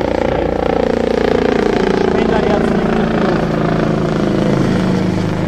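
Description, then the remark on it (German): The AKH hospital helicopter passes overhead, its loud, steady rotor and engine drone filling the whole stretch, the pitch slowly sliding downward as it moves by. “Jo, wir haben ein fliegendes nervendes Störgeräusch. Ich heute noch keine. Der AKH-Hubschrauber.”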